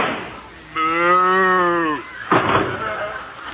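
A single long, drawn-out cow moo rises and holds for over a second, clear, followed by a burst of rough, noisy sound.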